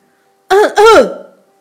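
A man's voice gives a single loud, close cough-like 'ahem' in two quick voiced bursts, mimicking someone coughing to get attention, with silence around it.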